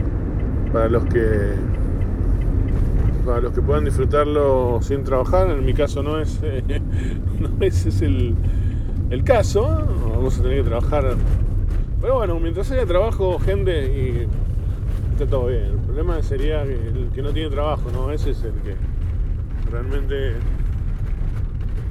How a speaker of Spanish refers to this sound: Disculpen el ruido, pero estoy una calle empedrada con varios badenes o lomos de burro, mejor dicho, entrando acá a un depósito.